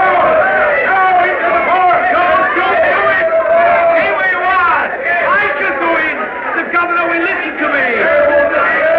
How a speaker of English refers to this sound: The gate has slammed shut on the crowd. The soldiers are barring the way, but the people are still trying to press forward. They're being held back for the moment anyway.